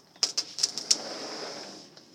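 Birds call outdoors in a quick burst of about five short, high chirps, followed by a thin, steady high note that gradually fades. No one speaks.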